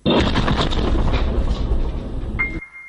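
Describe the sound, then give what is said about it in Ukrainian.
A loud explosion of an old van packed with TNT, set off by a remote device at a military checkpoint near Mariupol, Ukraine, bursts out at once and rumbles on with heavy crackling debris for a couple of seconds, then cuts to a thin, steady high-pitched whine. “Машину, начинену тротилом, терористи привели в дію за допомогою дистанційного пристрою.”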